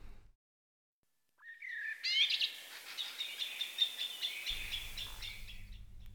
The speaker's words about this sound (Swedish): Syncentralen har bytt orienteringsljud. Borta är den klassiska ljudfyren och istället så kvittrar en koltrast vid entrén på Fleminggatan.